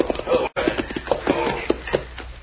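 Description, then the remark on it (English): Horses' hooves clip-clop in a steady, fairly quick rhythm of sharp knocks, moderately loud, with a brief gap partway through and a muffled, narrow-band quality, as riders arrive at a cafe to tie their horses to a hitch rail. “Tie our horses to this hitchway and we're going to go in.”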